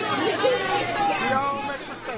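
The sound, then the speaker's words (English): A crowd boos a speaker amid overlapping chatter, a steady wash of low, drawn-out jeering voices at a fairly even loudness throughout, with scattered individual shouts rising and falling within the din. “So you hear some people in the crowd booing him, and another one who said we all make mistakes, you know, kind of saying it's all right.”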